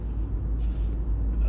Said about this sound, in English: I'm in pretty much bumper-to-bumper traffic now. It's one of the joys of living on Long Island. Too many cars.